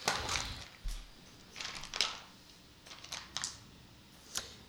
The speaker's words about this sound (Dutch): Ik even wat dobbelsteentjes nemen. De grote kist nemen.